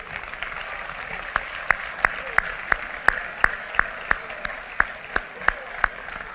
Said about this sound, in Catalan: Us agrairia que el tercer aplaudiment de la tarda fos per a totes i tots ells, perquè us ben asseguro que el tenen més ben que merescut.